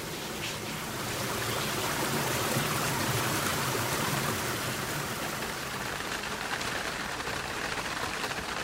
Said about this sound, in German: Zum Beispiel mit dem Smartphone Wassergeräusche aufzunehmen. Tropfende, planschende, glucksende, schwappende, rauschende, fließende, blubbernde. Wasser kann ja jede Menge Klänge und die lassen sich zu Wassermusiken mischen.